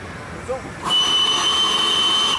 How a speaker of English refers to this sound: Keeping his hand on the whistle cord, Roger sounds it again.